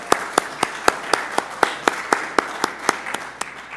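Applause made of crisp, evenly spaced claps, about four per second, keeping a steady rhythm throughout with no talking over it.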